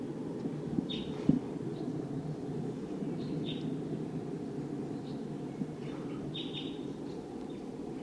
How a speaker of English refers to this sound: Wild? Sounds like the V-shaped flight call note. Wild bird.